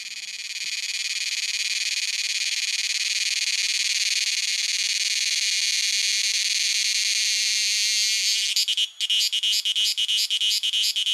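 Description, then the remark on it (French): Thai cicadas give a loud, steady, buzzing drone with an almost electronic tone, then break into rapid rhythmic pulses near the end. Continuous, with no voices. “Ah mais exactement, comment font-elles ces cigales thaïs, hein, donc de Thaïlande, pour faire tant de sons, de musique, je ne sais pas comment il faut le dire”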